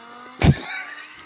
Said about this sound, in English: But, I mean, it was 4 Lamborghinis on William Nicole. That sounds like a Prius.